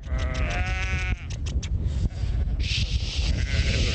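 A flock of sheep herded by a shepherd on a windswept hill outside town bleats loudly, one long wavering call followed by shorter overlapping bleats, with a large Kangal dog sitting in the middle of the flock, over steady outdoor wind and rustling noise.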